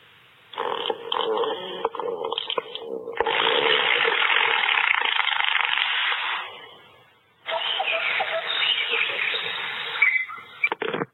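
An Alexa smart speaker, asked to make a fart noise, plays loud, raspy fart sound effects in three long sputtering bursts, buzzy and tinny, with a brief gap before the final one.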